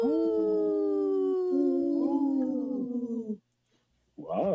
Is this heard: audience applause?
no